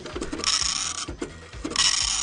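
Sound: dot matrix printer printing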